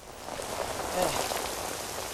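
rain falling

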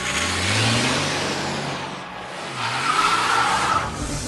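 truck driving away

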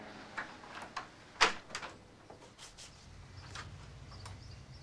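apartment door being opened

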